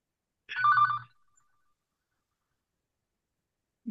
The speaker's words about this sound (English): I'll wait for the phone to stop ringing.